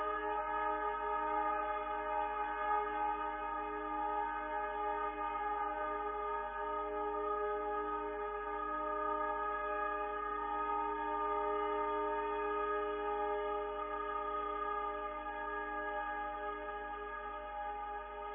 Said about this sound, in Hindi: Horn अटक गया है इसे।